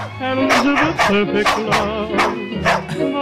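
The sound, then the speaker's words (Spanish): Several dogs bark in quick, overlapping bursts, loud, with sharp yips repeating at a steady rhythm throughout. “Vamos a sacar a los perros porque no se merece otra cosa.”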